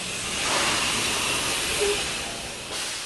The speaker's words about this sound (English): A gas tanker pulls in to refill the gas station.